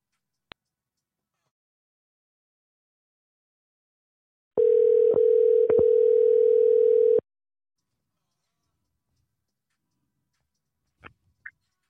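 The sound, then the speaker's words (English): A single steady, mid-pitched telephone ringback tone sounds for about two and a half seconds as a radio show on Power 107.6 calls an artist, with a couple of faint clicks before and after it and silence around it. “Let's go ahead and call and see what's really good.”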